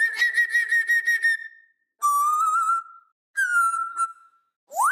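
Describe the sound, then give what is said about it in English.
A Congo grey parrot mimics whistles in several clear, tonal bursts: a wavering steady note, then a sliding whistle, another falling one, and a quick rising swoop at the end, with short pauses between. From the Animal Hyperrealism sound collection. “In this new collection, you cover a wide range of animals, from the Congo gray parrot, which is my particular favorite because it does all of these really neat mimic sounds.”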